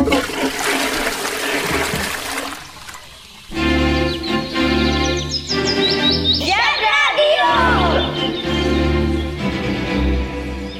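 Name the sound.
toilet flushing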